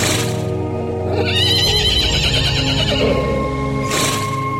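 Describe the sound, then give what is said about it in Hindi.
A man's lost horse, walking in a village in Aurangabad, lets out a loud, drawn-out whinny with a wavering, quivering pitch, framed by short bursts of rustling noise before and after, with no one speaking. “इसके जवाब में युवक बोला, वो देखो, वो चल रहा है तुम्हारा घोड़ा।”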